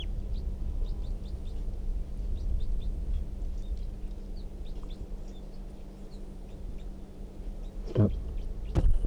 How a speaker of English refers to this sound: That wild bird, I think, is still in the tree, but it's very quiet, and the decoys are also very quiet.